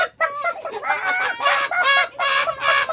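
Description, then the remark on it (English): Hens that have just woken up screech and cackle in a loud flurry of harsh, overlapping squawks, a few drawn-out bursts following one another with only brief gaps between them. “The hens woke up and screeched and cackled.”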